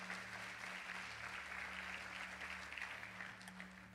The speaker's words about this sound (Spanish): Gracias, pero yo no sé si usted puede darle un aplauso al Señor por eso.